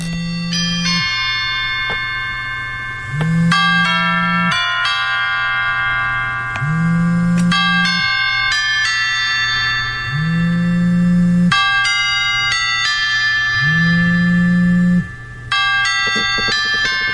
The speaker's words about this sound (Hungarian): Ennek a bányászhimnusznak létezik egy harang változata, amit a temetéskor szoktak lejátszani. Ez például nagyon-nagyon fontos harangszó szólal meg. Ez az ön csengő hangja a telefonon?